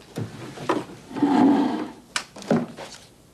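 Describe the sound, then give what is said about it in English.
A wooden right-hand drawer slides open with a long, scraping rub, followed by a few sharp knocks and rattles as things inside are shuffled around while searching for a flashlight and a bottle opener, with no talking. “It's in the right-hand drawer next to the bottle openers.”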